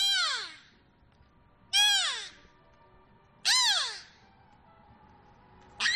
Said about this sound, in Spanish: La pareja de belugas se comunicaba con sonidos parecidos a los de los delfines. Escucha.